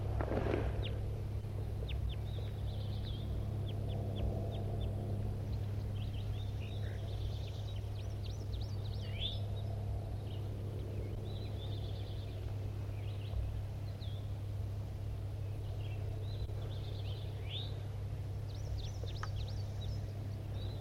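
bird, flock of birds

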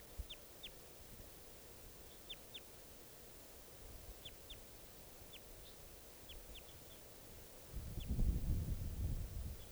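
bird, wild bird calls

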